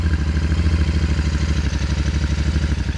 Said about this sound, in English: Captain Donald started the motorcycle.